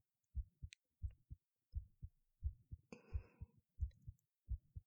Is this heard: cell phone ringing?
no